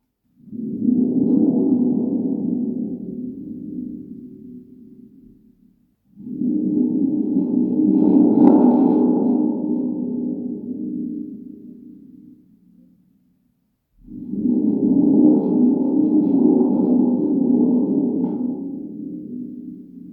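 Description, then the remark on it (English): A storm sound effect, used as the instrument representing the fifth dot of Braille: three long, low rumbling roars, each swelling and fading over about six seconds, separated by brief silent gaps. No one speaks. “Fifth dot, the mighty instrument called storm.”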